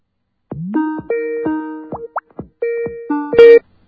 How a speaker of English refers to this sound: So here we go. You get to listen to the great Skype ringtone that we all know and love.